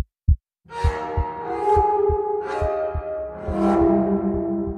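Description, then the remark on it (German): A steady, fairly fast heartbeat thumps low in paired beats, layered under a sustained tonal drone with swelling, breathy washes rising and fading over it. “Wie die einzelnen Zellen im Frühling aber wieder zu einem Organismus werden, wer die Initialzündung gibt für den ersten Nervenimpuls, der erste Herzschlag, das weiss kein Mensch.”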